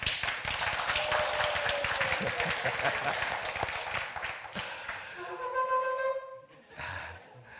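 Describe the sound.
An audience at a service applauds a performed arrangement of Ma'oz Tzur, with dense, steady clapping for about four seconds. The clapping then thins out as a voice with clear tones takes over, singing the Aaronic blessing in Hebrew.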